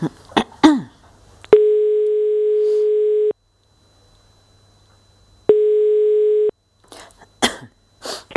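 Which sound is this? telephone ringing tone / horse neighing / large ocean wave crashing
telephone ringing tone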